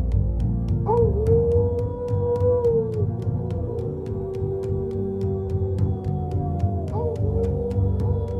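A coyote howls in long, mournful wails. Two cries rise sharply, then slide slowly downward, sustained over a low, steady rumbling background.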